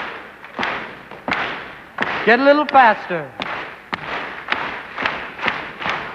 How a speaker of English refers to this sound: I'd like you now to clap your hands rhythmically, like so. Thank you. Stamp your feet.